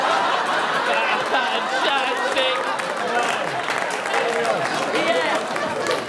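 Steady live audience applause, the first applause break of the evening, lasts several seconds, dense and fairly loud, with scattered laughter and crowd chatter mixed into the clapping.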